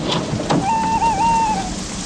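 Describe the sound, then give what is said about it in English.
Light rain patters in a steady, even hiss at Roosevelt Field airfield near New York, with a cold wind, joined midway by a thin, wavering whistle-like tone that holds for about a second before fading. No one speaks. “Vendredi 20 mai 1927, terrain d'aviation Roosevelt Field, banlieue New York, pluie fine, vent froid.”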